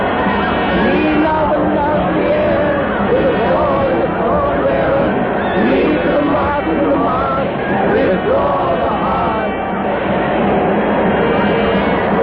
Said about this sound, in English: The crowd shrieks.